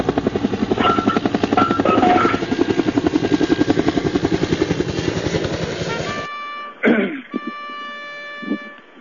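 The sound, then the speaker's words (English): A loud aircraft taking off roars with a fast, rhythmic rotor-like chopping for about six seconds, then cuts off abruptly to a few sustained electronic tones and short bursts. “Prepare for takeoff.”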